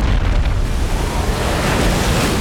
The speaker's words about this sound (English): The water, displaced by its massive footfalls, rushed into the city. From the boat, Julian and the surviving sailors watched in horror as the tsunami destroyed its lower regions.